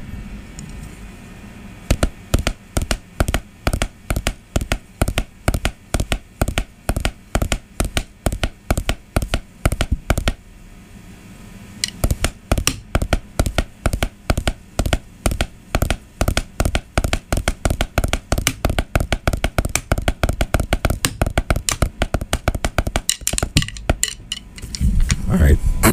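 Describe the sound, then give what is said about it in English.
An imitation of a horse galloping along a trail with dirt on it, made with rapid, steady percussive taps in a driving rhythm. One run stops for a brief pause, then resumes louder and continues to the end. “This is my impression of a horse galloping on some dirt.”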